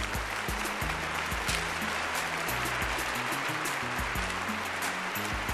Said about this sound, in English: When it's time to pass the baton, today's Wall Street Journal, I think we should standing ovate. Did that hit home with any of you all? I had to stand and applaud that.